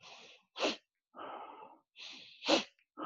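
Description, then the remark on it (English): Controlled breaths through the nose and mouth in a breathing exercise, each round ending in a sharp, forceful sniff directed up into the head; two sniffs stand out, with no talking. “And then it finishes with a sharp sniff. And you direct that sniff up into the head.”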